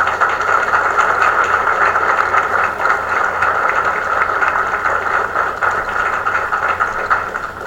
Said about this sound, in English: I thought I would take my time getting up here so the applause could go on a little longer.